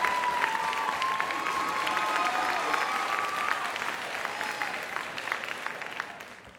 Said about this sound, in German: Applaus!